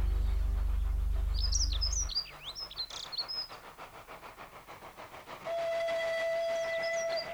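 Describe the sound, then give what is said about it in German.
An old steam locomotive approaching a station chuffs rhythmically over a deep rumble, with birds chirping, then lets out a long, steady whistle that holds to the end. “von der alten Dampflok zu sehen bekamen, war die weiße Wolke, die hinter den alten Häusern auftauchte und sich den Schienen folgend in einer weiten Kurve auf den Bahnhof zuschob.”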